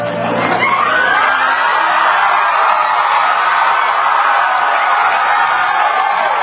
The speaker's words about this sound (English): The dumb audience doesn't know whether to boo or cheer. They've got a little applause things up.